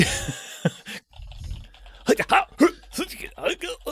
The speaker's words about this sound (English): I'm more interested by those noises you just made. Are you typing things the way an anime character would?